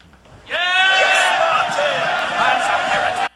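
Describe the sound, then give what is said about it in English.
An angry crowd at Martin Luther's trial shouts and jeers, calling for his head because he would not recant: a loud, sustained roar of many raised voices, starting suddenly and holding at full strength for about three seconds before cutting off. “That's the crowd calling for his head, because he would not recant.”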